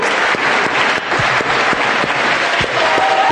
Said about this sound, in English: Okay, the men should clap for the women to come. Que les hommes applaudissent et que les femmes viennent.